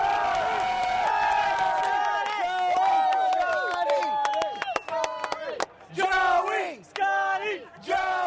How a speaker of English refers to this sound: a joint cheer for golfer Scott Hebert and his caddy